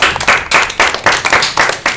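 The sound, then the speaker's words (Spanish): A small group claps together in a fairly steady, rhythmic burst of applause for a group of boys and girls on the school radio station Radio Escolar Tagoror, moderately loud, with no voices over it. “Muy bien, un aplauso a estos chicos y chicas.”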